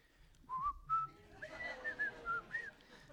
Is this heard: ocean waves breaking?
no